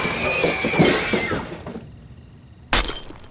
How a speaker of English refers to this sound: I broke a small side window and let myself in.